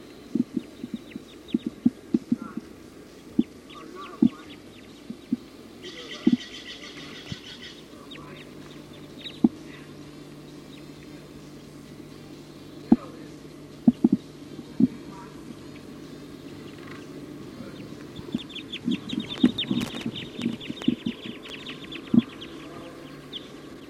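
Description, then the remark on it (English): A flock of Type 2 birds perched at the very top of a pine tree calls, with scattered sharp clucking notes at irregular intervals and a couple of brief bursts of higher, busier chatter. “The flock is calling now.”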